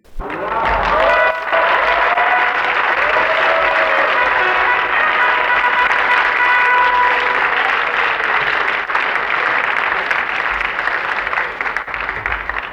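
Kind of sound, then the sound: crowd, theatre audience applause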